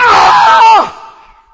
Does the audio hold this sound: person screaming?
yes